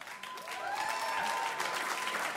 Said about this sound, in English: You know, I told our sponsors that you all applaud every time I mention their names, and they could not believe it.